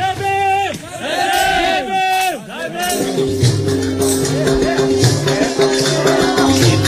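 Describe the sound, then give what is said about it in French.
A lively festival crowd in a Dalit village square, lit by oil lamps in the evening, cheers and calls out over music from a small concert the villagers put on, with voices rising and falling in loud, overlapping bursts as steady tones and a rhythmic beat carry underneath. “Alors c'est la place du village. Tout ça c'est pour nous. Toute cette musique c'est pour nous.”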